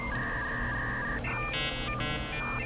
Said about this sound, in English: We have to have an internet sound effect. I'm so confused. Why are we doing dial tones? I don't like this.